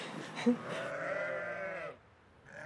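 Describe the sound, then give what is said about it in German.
Freshly shorn sheep in a large enclosure in front of a barn, 12 ewes with many lambs, mostly twins: one sheep lets out a long, wavering bleat lasting about a second, with shorter bleats from other sheep and lambs just before it. Clear, with no talking. “Die Schafe stehen vor dem Stall in einem großen Gehege, frisch geschoren mit prallen Eutern. Um sie herum Lämmer.”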